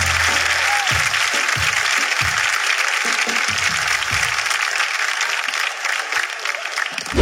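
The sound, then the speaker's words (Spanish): Sustained audience applause fills the space, a dense wash of many hands clapping at steady loudness for several seconds, with a few scattered low thumps underneath. “Un fuerte aplauso al público, que lo están haciendo muy bien.”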